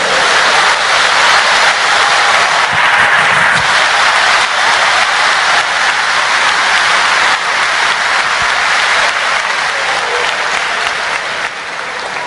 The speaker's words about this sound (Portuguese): Diga para alguém que está do seu lado, agosto vem aí. Aplauda Jesus.